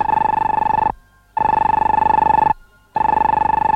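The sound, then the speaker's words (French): The electric bell of Popov's radio receiver, an apparatus with an antenna, rings loudly in three rapid, rattling bursts as it picks up signals, each about a second long with brief silent gaps between them. No voices accompany it. “Popov s'approcha d'un appareil à l'aspect insolite, doté d'une antenne et d'une sonnerie électrique.”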